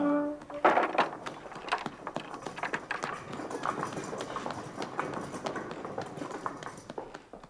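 Horse hooves clip-clop in a quick, steady rhythm of many sharp strikes, fairly close, after a brief tonal sound at the start, continuing for several seconds with no talk.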